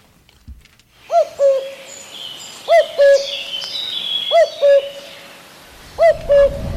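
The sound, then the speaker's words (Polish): A cuckoo calls its two-note cu-koo four times at a steady, unhurried pace, clear, with fainter birdsong chirping in the background. “Kuku.”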